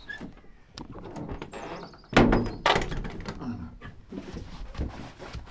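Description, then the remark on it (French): A heavy fake armored door made entirely of scrap iron, partly from a piece of an old hatch, scrapes and clanks as it swings, then lands with a loud thunk around the midpoint, followed by softer rattling and knocks, with faint voices murmuring underneath. “C'est une fausse porte blindée, hein. Elle est très impressionnante parce qu'elle est toute en ferraille, mais voilà, elle est assez simple en fait.”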